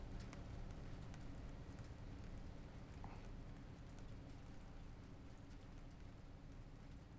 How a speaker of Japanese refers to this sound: このままもう少し、雨が止むまで、お昼寝だとか、しちゃいましょうか。